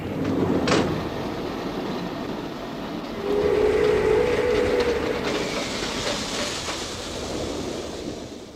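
A train rolls steadily along the tracks, a continuous broad rumble with faint rhythmic clatter and a brief high squeal, with no one talking.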